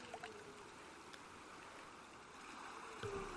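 Steady watery splashing and sloshing of someone swimming through the Sea of Galilee, with a brief louder splash near the end and no voices.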